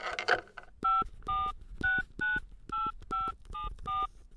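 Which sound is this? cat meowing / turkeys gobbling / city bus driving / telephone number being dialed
telephone number being dialed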